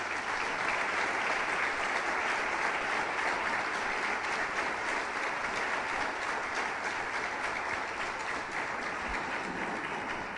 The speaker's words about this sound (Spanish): Un merecido aplauso. Muchísimas gracias.